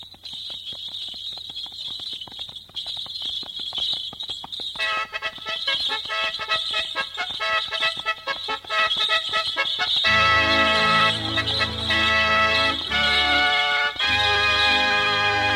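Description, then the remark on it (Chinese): Rapid, steady clip-clop of horse hooves pulling a carriage in the morning, deep in a forest, with bright jingling bells ringing over the top; around two-thirds through, a loud melodic passage of music joins in. “早晨，从森林深处突然响起了阵阵的马车声。”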